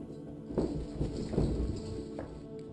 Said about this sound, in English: He's immediately rushed by footsteps running towards him. But when he turns, there's no one there.